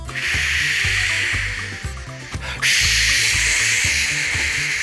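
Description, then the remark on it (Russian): Steady loud hiss of air escaping from wheels punctured by rusty nails scattered on the road, briefly dipping before resuming at full strength, with faint low rhythmic thumps underneath. No talking. “Нет, это кто-то ржавых-ржавых гвоздей по дороге накидал, и у меня все колеса проткнулись.”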